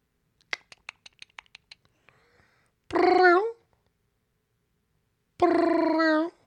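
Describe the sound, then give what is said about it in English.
A series of quick taps or clicks, then a cat meows twice, loud, each meow drawn out and separated by a short pause. “Okay, anyway, this is Cat Calls, apparently”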